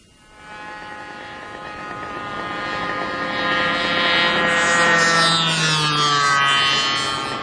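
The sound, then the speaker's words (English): A small radio-controlled model airplane's buzzing engine drones steadily overhead, its whine rising in loudness and pitch as it passes, then shifting downward as it moves away. A model plane club flies it behind the Walmart in Lincoln. No one speaks. “Not mud or snow can keep members of the Lincoln Sky Knights from enjoying their sport, flying radio-controlled model planes.”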